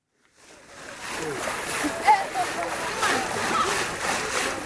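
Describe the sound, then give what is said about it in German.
Water splashes and sloshes steadily in a shallow, brown-black stream as mud-smeared children wash rocks by hand at a mine near Likasi in southern Congo, with faint voices murmuring in the background throughout. “Erdverschmierte Kinder stehen in einem Bach und waschen Gestein.”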